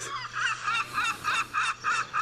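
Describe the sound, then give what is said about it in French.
A gull calls over and over in a steady run of about eight loud, nasal cries, each short and evenly spaced, with no one speaking. “Il est possible de voir ces grands oiseaux blancs, très élégants en vol, qui souvent poussent des cris que tout le monde connaît, comme ces cris de goéland qui nous rappellent un peu la mer.”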